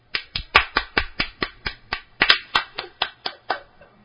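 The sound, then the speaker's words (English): Applause from an audience in Maui welcoming a speaker: a steady run of sharp, crisp claps in an even rhythm, roughly four per second for about four seconds, fading slightly at the end, with no voices. “Let's welcome him and let's give him a big warm applause.”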